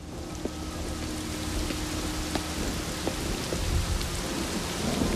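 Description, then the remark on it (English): Steady, dense rain pours down in a continuous hiss, with scattered sharper drops pattering through and a low rumbling undertone throughout. No one speaks. “The heavens open as Jack heads for his car.”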